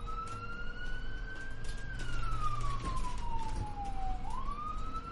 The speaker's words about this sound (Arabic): وبعد وقت وجيز بما يناسب خطورة الموقف، حوالي 1:40 وصلت سيارة الإسعاف، وأضواؤها وسرينتها تمزق أرجاء الليل الصامت.